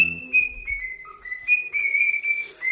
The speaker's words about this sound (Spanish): Es el caso de un hombre al que entrevistamos aquí en la tarde de COPE hace unos meses, cuyo loro silbaba el himno del Barça. Claro. Lo malo es que el dueño es del Real Madrid.